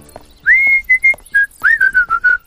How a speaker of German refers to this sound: Jacks Pfeifen scheint die Ratten anzulocken.